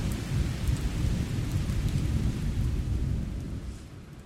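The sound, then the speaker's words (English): Deep, continuous thunder rumbles through steady heavy rain during a summer morning thunderstorm with lightning and wind in the Providence area, a dense low roar that holds loud for several seconds before easing slightly at the end. No voices are present. “Thunder rumbled as lightning lit up the skies.”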